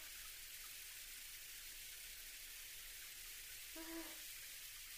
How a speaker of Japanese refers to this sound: 大丈夫ならよかった。このままシャワーしていくね。